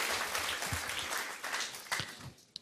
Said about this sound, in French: Je vais inviter, est-ce qu'on peut applaudir nos trois personnages et leur demander de venir nous voir encore?